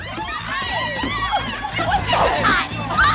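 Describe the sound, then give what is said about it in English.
A group of young women shriek and squeal excitedly as friends return to their table on a balcony, their high voices overlapping and swelling louder toward the end over busy background chatter. “The girls scream out as …, … and … return.”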